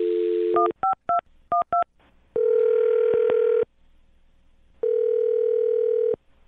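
telephone dialing and ringing

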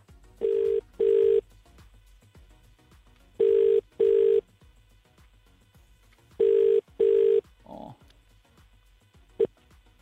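telephone dialing and ringing

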